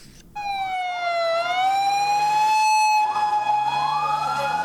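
ambulance sirens

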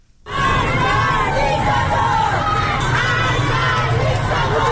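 protest crowd chanting

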